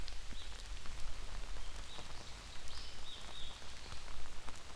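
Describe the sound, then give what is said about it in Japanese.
Steady rain patters on surfaces in a place where it often rains, a dense, continuous spray of drops with occasional sharper taps, while faint birdlike chirps drift in the background. “ここってさ、雨が降ることが多いんだけど、傘を持ってない人に会うのって久々だよ。”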